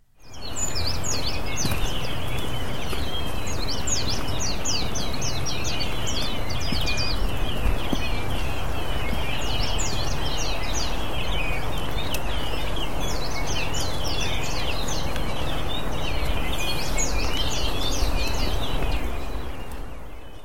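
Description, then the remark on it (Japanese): Many wild birds sing together in a steady outdoor chorus on Iimoriyama in the town of Asuke, among maples and cedars around a Soto Zen temple, with bright overlapping trills and chirps repeating throughout over a soft background hum, continuous with no voices. “お寺とかお堂がある飯盛山のてっぺんまで登り、そして降りてくるときにね、なんともいい野鳥のコーラスが聞こえたので、これも撮ってみました。”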